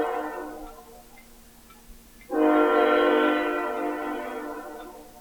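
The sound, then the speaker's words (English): A train horn sounds in a long, steady chord as the train goes by, fading slightly before blasting louder and fuller partway through, holding strong to the end with a faint rumble beneath. “The train is going by to reinforce my point.”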